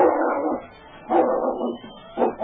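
A dog barks and whimpers in three strained, whiny bursts, each about half a second long and spaced roughly a second apart, with a mid-pitched cry and no voices.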